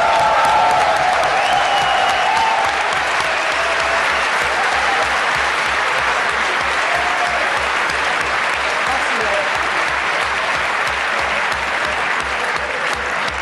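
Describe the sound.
Sustained audience applause for this year's winner, a dense, steady wash of clapping hands that stays loud and even throughout, with a few faint voices mixed into the crowd.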